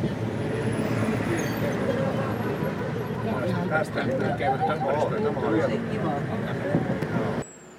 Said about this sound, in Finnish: Nyt kun ei ole selostusta, niin voi ottaa vähän tätä junan ääntä.